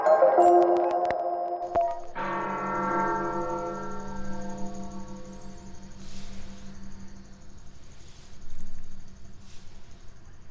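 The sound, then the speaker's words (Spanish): Large bells of the Metropolitan Cathedral in Mexico City ring out in a peal for the death of Pope Francis, loud struck tones blooming into long, humming overtones that slowly fade, with a few softer strikes later over a steady background hiss. “Bueno, pues siguen el repique de las campanas allí en la Catedral Metropolitana, aquí en la Ciudad de México, en el primer cuadro de la ciudad.”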